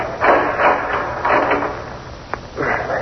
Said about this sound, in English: All right, lower to the floor while I open the door and snap on the light.